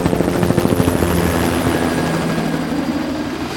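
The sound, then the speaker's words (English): A helicopter lifts off, its rotor blades thudding in a rapid, steady rhythm over a loud engine whine that gradually smooths into a sustained roar. “Britton shrugged and slipped it on himself as the helicopter lifted off.”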